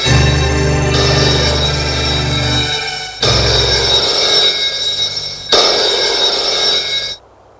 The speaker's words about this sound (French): Plus tard, le téléphone sonne dans le bureau